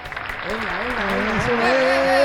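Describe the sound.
A crowd applauds steadily, the clapping swelling louder over a couple of seconds, with cheering or whooping voices rising above the dense wash of claps.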